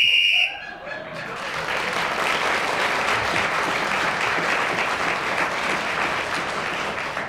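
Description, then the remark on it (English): A single short, shrill whistle blast sounds at the very start, marking that a 60-second turn in a game is up, then is immediately swallowed by sustained loud applause from an audience that continues to the end. “That whistle tells us that 60 seconds is up, and whoever is speaking at that moment gains an extra point.”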